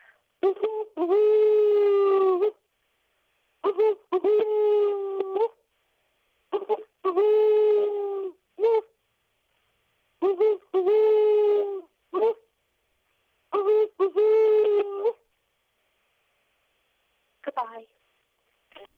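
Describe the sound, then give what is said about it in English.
A woman's voice imitates an owl in a phoned-in voice message, hooting in about five steady, drawn-out phrases separated by short pauses, with a faint brief call near the end. “Okay, thanks to everyone who called in and left an owl sound.”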